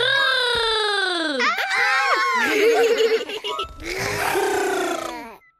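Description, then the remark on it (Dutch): A child's voice imitates a tiger with a few loud, strained roaring cries that rise and fall in pitch, running together for about five seconds with no other talking. “…, wil je ons voordoen hoe een tijger doet?”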